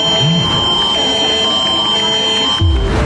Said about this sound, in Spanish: este viernes se implementará por primera vez a nivel nacional el sistema de alertamiento masivo a través de los teléfonos celulares